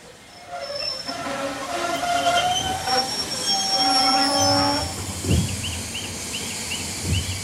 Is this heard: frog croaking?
no